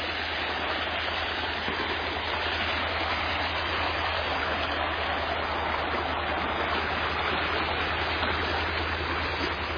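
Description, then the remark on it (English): Creek water rushes steadily and evenly for the whole stretch, a constant hiss of flow with a low mechanical drone humming underneath and no voices. “This is another Stella cherry tree here, right at the edge of the creek.”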